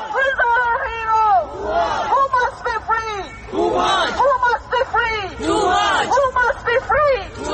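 A crowd of protesters chants a name in unison, loud and close, the shout repeating in a steady rhythmic cadence with brief gaps between each call.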